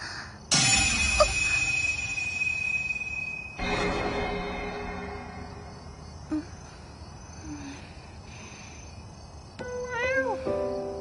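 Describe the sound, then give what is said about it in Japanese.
A cat meows briefly near the end, a short wavering cry over a quiet, busy background of ambient sounds, with no one speaking. “お前はなんつう招き猫だよ。”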